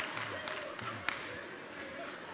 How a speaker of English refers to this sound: Now you can hear who's cheering, right?